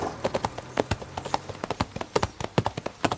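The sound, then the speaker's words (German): Horses' hooves clip-clop in a quick, uneven stream of sharp knocks, several animals' steps overlapping into a busy, steady patter with no talking, as the riders reach an overgrown quarry and let the horses run. “Komm, wir lassen die Pferde laufen.”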